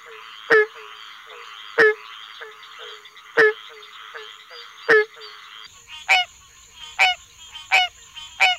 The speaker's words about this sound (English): Second, the hollow oonk of barking tree frogs.